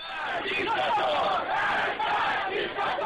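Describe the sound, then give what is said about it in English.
A large crowd of tens of thousands of demonstrators in the streets of Iran, on the 30th anniversary of the seizure of the American embassy, shouts and chants together in a dense, continuous roar of many voices, loud and steady throughout with rising and falling swells of yelling. “Tens of thousands of demonstrators once again poured into the streets.”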